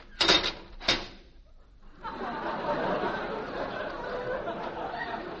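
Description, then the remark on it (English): Two sharp mechanical clunks from a door's time lock snapping shut, a brief gap, then a steady murmur of voices and background noise that carries on to the end. “Time lock on the door.”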